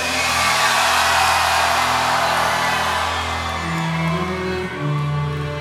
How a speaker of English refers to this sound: I can hear the Paradiso scream for me!